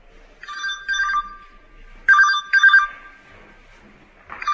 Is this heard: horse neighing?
no